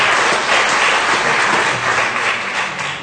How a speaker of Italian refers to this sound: Facciamo un applauso di benvenuto ai nostri fratelli. Benvenuti.